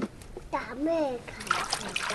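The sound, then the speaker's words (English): Water sloshes and splashes in irregular bursts as a woman washes clothes by hand, squatting in the doorway of her house, while a toddler's voice calls out briefly in the middle. “She washes clothes, squatting in the doorway to her house, watching over a toddler.”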